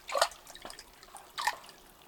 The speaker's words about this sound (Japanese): それでは掛け湯をしていくね。炭酸泉だからいつもは少しぬるいんだけど、ちょっと熱いかも。